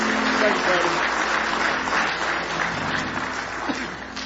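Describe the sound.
A church audience claps steadily together in praise of the Lord, a dense wash of many hands sustained for a few seconds, with crowd murmur and voices mixed in around the applause.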